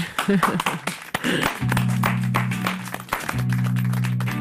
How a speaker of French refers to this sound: Merci infiniment, applaudissez-vous. Moi je vous ai trouvé vraiment pas mal. Bravo.